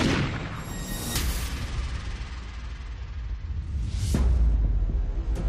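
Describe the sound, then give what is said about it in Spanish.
Two gunshots ring out a few seconds apart, each a sharp blast trailing into heavy low rumble, over a dark, booming background with no voices. “El segundo disparo le impidió levantarse.”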